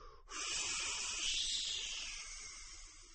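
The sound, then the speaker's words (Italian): A person makes a long, steady hissing sound with the voice, a sharp airy sibilance that starts abruptly, holds for about three seconds and tapers slightly at the end, with no speech. “Io feci un sibilo.”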